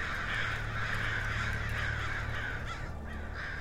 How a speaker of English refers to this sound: But then, what was that? There go the crows.